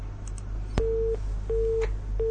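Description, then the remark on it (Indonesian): A telephone busy tone after a caller's line drops during a broadcast call-in question-and-answer session: three short, evenly spaced beeps of a steady mid-pitched tone, repeating over a low line hum and opening with a faint click. “Nah, terputus.”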